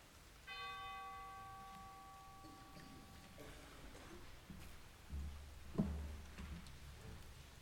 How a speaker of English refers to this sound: And a final chime for those who were lost but not listed.